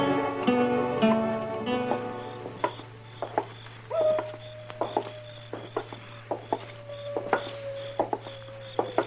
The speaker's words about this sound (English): Quiet night, Mr. Dillon. Yeah. Except for that coyote. He's wailing his head off out there. Mad at the moon, I guess. Or in love, maybe.